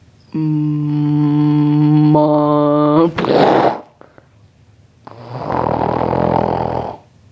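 snoring

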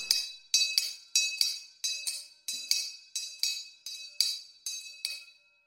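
bell ringing

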